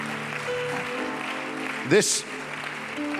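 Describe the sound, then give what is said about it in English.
A church audience claps steadily together to praise God, a dense wash of hands, with voices and music underneath and a brief loud shout rising midway. “Let's clap our hands unto him again and bless his name.”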